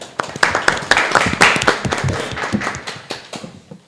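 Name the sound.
applause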